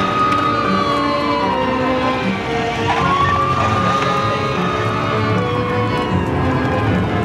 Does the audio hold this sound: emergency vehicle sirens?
yes